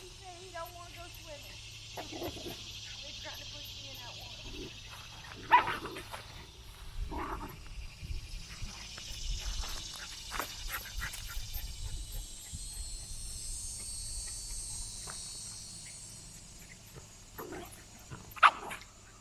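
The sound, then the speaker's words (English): Dogs play-wrestling outdoors by a pond on a farm on a fine day, with intermittent growls and scuffling bursts, a couple of sharper yelps standing out over a steady hiss of outdoor background noise. “Yep, the dog's having a little wrestling match down there.”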